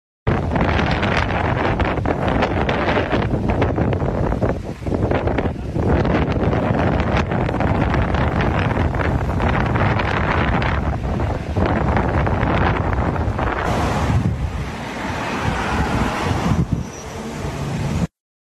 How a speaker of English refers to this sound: Yeah, there is a short video. It's just really loud wind. Ah. I can cue it up here. So we can see the wind and this palm tree just bending.